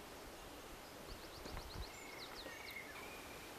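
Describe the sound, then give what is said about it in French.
Faint birds chirp in quick repeated bursts over a soft rustling outdoor background, with a thin whistled note drawn out near the end; no one speaks. “On arrive tout doucement avec les oiseaux.”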